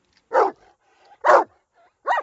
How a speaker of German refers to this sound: Oh ja, ich kann deinen Hund hören. Aber wo ist er?